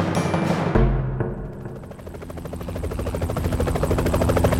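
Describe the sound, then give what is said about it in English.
A helicopter without a logo or other identifying marks drones steadily in flight, its rotor blades chopping in a fast, even rhythm over a deep engine rumble, loud with no voices. “Twenty minutes later, they were airborne in the same model helicopter they'd used to make the trip from France, but this time it was minus the logo and other identifying marks that might help the authorities track them down after the fact.”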